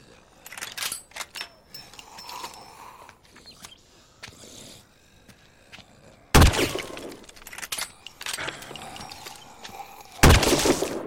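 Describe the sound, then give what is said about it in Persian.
Two loud, sharp gunshots ring out several seconds apart, each with a brief echoing tail, preceded by quieter clicks and mechanical rattling. “داری تیراتو حروم میکنی.”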